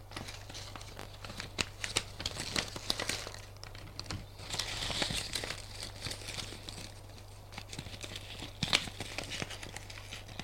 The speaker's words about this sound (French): Alors il prend un vieux papier journal, le découpe en petits morceaux et va près de lui. Tiens, mange. L'autre mange des bouts de papier. Il a l'habitude.